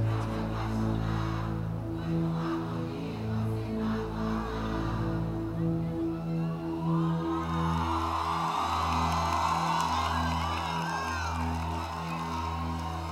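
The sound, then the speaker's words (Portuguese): A stadium crowd sings together in loud, sustained, shifting notes, with whoops and cheers swelling over the chant through the second half. “Canta, torcida.”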